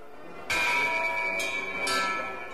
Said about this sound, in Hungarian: Hű, micsoda harsogás! Van ez a csengő.